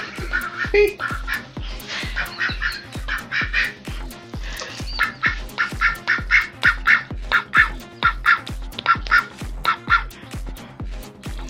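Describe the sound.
A buzzy, nasal duck-like voice quacks in a rapid, chattering stream for about eleven seconds, fairly loud, like someone imitating a duck trying to talk.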